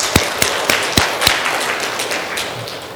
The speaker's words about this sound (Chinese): 我知道弟兄姐妹，我们当中的有弟兄姐妹啊，啊，他很早起来就去接别的弟兄姐妹来上教会。我为这些弟兄姐妹鼓掌。